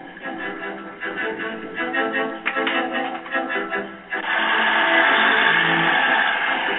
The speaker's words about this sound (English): There's a tractor sound in the background